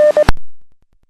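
A steady electronic tone keys on and off in a couple of quick beeps, the Morse code ID of the Salem radio repeater, ending in an abrupt burst of radio static that fades away.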